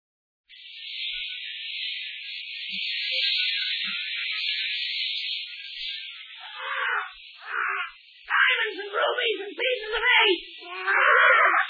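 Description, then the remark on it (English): A parrot named Paul Parrot lets out a long, shrill, unbroken screech, then breaks into a string of choppy squawks and chattering calls, loud. “Even Paul Parrot's got treasure on his mind.”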